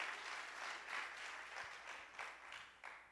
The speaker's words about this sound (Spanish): Dele un aplauso al Señor para que se sacuda. Give God a strong hand of praise so you can shake yourselves off.